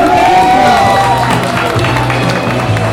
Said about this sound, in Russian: Буря эмоций и овации – это, конечно же, все для победителей